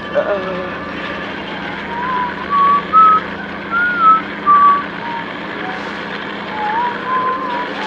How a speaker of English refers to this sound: you better start whistling something bloody cheerful. Nice and loud now. Come on. Not circus music, you cretin! Christ alive! Look, something cheery, something nice, right now.